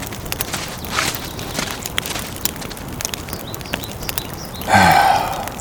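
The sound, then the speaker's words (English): Horses shift and stamp, hooves knocking irregularly on hard ground, then a short, loud snort or whinny near the end. No one speaks. “I'll do the same for the horses.”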